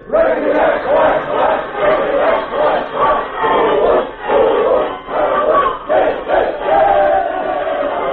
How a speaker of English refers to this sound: Here's the team, gang. Let's have a cheer for them.